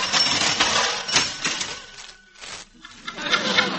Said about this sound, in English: please pick your typewriter up off the floor